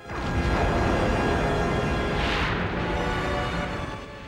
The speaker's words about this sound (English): Picard looks on grimly as the massive explosion bathes 10 forward in light and buffets him.